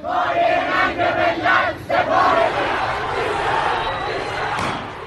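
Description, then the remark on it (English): A large crowd of Iranian protesters, from a vigil for airliner crash victims that turned angry, chants loudly in the street, including "Our leader is ignorant and a source of shame", voices rising together in rhythmic bursts over a constant roar of the mass of people. “Some vigils for the crash victims, however, turned angry with protesters taking to the streets. Some chanted, "Our leader is ignorant and a source of shame," and others called the IRGC forces incompetent and a source of shame for our nation.”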